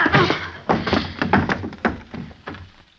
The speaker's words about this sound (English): Jeepers. What'd you hit him with the chair for